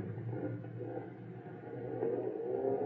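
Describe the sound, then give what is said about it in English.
A car engine rumbles steadily, its low drone building slightly and pitching upward toward the end as the car begins to pull away. No voices are heard. “Just get this car rolling for the time being.”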